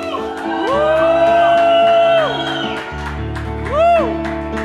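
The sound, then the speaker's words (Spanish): A crowd lets out a loud, sustained collective victory shout together during a prayer to God, a long rising cry held for over a second, followed by a shorter second swell of voices cheering over a steady low rumble. “¿Qué tal si damos juntos un grito de victoria?”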